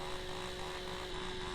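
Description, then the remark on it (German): A small moped car (microcar) drives through a bend, its engine droning steadily, a thin, even buzz with a faint hum underneath, holding at a low, constant level throughout. “Das Moped-Auto in der Kurve.”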